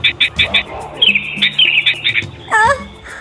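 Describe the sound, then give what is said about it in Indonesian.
A sooty-headed bulbul perched in a tree near a caged monkey chirps in a quick run of bright, repeated notes, then gives a louder warbling call near the end, with a faint low hum underneath. “Burung itu mendekati Monkey dan melihatnya terkurung dalam kandang. Dia lalu bertengger di pohon dekat Monkey dikurung.”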